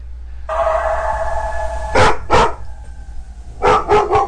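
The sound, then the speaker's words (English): A dog, Max, barks sharply in the living room, reacting to Animal Planet on the TV: two quick barks, a short pause, then a burst of three more, all over a steady droning tonal sound that runs underneath throughout. “Oh, he ran off barking the living room.”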